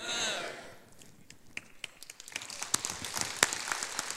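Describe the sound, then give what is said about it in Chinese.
Audience applause, starting as a few scattered claps and building into a denser, crackling patter of many hands clapping at moderate volume, with no voices. “我相信这个鼓掌是为了神，为了这个奇妙的希伯来文所传递出上帝本身的那个奥秘所让我们看见的。”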